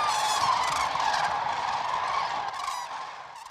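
A dense chorus of cranes calling, many overlapping honking and trumpeting voices filling the air continuously, like a large flock, with no talking. The cranes are resting in Israel's Hula Valley, in spring, while migrating between Europe and Africa.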